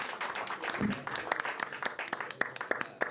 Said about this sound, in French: Est-ce qu'on peut l'applaudir encore une fois, s'il vous plaît? Bravo.